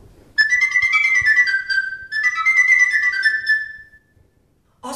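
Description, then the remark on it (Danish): A sopranino recorder, a tiny recorder, plays two long, piercingly high held phrases separated by a brief pause, the bright, whistle-like tone wavering slightly, fairly loud with no voices. “Der findes en lille bitte en, som hedder en sopranino.”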